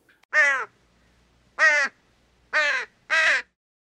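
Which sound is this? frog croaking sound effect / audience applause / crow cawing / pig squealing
crow cawing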